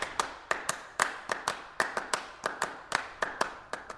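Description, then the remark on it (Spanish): Applause after a speech, from the shrimp and squid accompanying the speaker: scattered, sharp hand claps, roughly fifteen in four seconds at a loose, uneven rhythm, each crisp and bright with a quick decay, with no voices over it. “Por supuesto, su discurso fue muy aplaudido por camarones y calamares que lo acompañaban”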